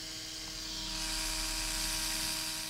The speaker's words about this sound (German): Ziemlich unspektakulär, so eine elektrische Tätowiernadel, meint er.